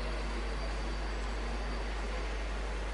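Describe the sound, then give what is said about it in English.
A train rolls past with a steady, hissing roar that holds evenly for the whole stretch, a dense wash of noise with no voices over it. “There are a train going by right now?”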